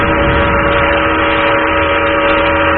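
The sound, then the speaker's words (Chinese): A southbound train's whistle blows one long, steady, loud blast that holds its pitch throughout, backed by a rushing, hissing wash of noise, with no talking. “汽笛已经拉响，背上沉重的行囊”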